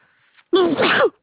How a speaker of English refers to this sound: God bless you. Excuse me. You just, some allergies been killing me for the past week.